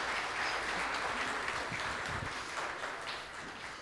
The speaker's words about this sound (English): Thank you, guys. Give them a round of applause for helping me out.